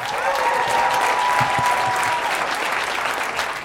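Sustained audience applause at a stand-up comedy show as a comedian comes to the stage, a dense steady wash of clapping with some whistling and cheering on top, loud and continuous throughout.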